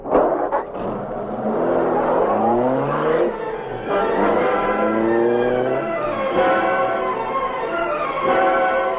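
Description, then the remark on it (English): A car accelerates in pursuit of another car, its engine revving hard, its pitch climbing in repeated rising sweeps as it shifts through gears, loud and steady with no voices. “Follow that car.”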